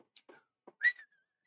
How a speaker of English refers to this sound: It's not that I couldn't hear you whistle. It's that the whistling peaks the mic and I can't hear the whistling.